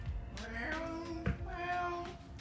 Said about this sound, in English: I love hearing my animals, especially my cat.